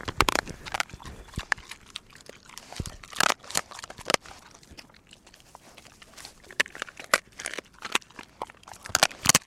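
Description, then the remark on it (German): A dog crunches and gnaws on the leg bone of a rabbit, its share of the prey from a hunt with a falcon: irregular sharp cracks and crunching bites mixed with wet chewing, some louder snaps standing out, with no talking. “Hinterher bekommt auch der Hund seinen Anteil an der Beute, den Knochen der Keule.”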